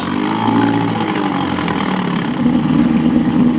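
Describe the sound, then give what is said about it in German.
A small outboard motor on a small boat drones steadily, a continuous buzzing engine hum that swells slightly louder toward the end, with no voices. “Melanie stieg in ein kleines Boot mit Außenborder.”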